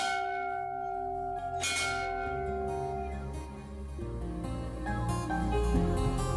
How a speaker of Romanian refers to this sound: Atenție la clopot.